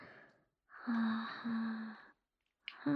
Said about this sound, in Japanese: はあはあ、って荒くさせちゃう。